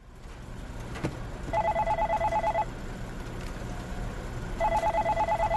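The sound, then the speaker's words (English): A telephone rings in two electronic trilling bursts, about a second long each and separated by a pause, sounding clearly over a low background hum with no one talking. “Phone calls, emails, that deadline.”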